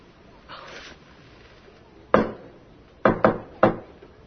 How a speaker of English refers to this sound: If I have any kind of news of any kind, something good, something nice that I want to share with you or something, I will knock 4 times, okay? It's going to be our secret code.